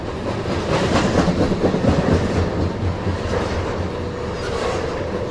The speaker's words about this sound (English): Coal. They might be empty. I don't know. I can't see the top. There's only two locomotives. It's a lot of cars, though.